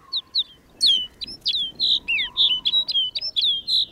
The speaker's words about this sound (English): Now it's clear that rolling white cloud isn't snow at all, but a flock of snow buntings. These birds bring the barren landscape to life.